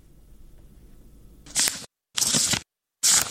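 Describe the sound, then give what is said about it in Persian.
Three quick, crisp rustles of book pages being turned by a 14-year-old Afghan schoolgirl, each separated by a short silence, following a few seconds of faint low background hum. “با هر بار ورق زدن کتابهایش خاطره تلخ روزی را به یاد می‌آورد که برایش اجازه داده نشد داخل مکتب برود.”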